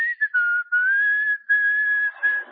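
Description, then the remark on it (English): A man whistles a short, steady melody, clear pure tones gliding between a few notes in phrases separated by brief pauses, with no talking. “I'm a whistler.”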